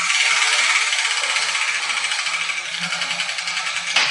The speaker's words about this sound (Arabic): وأنا سأبدأ بتحريك الدولاب لنرى أي كرة تسقط منه.